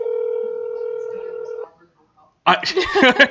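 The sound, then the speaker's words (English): A phone call rings out with one steady, buzzing ringback tone lasting over a second, followed by a brief silence, then voices begin talking. “If he'll answer the phone.”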